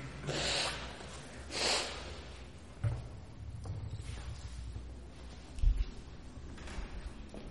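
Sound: nose blowing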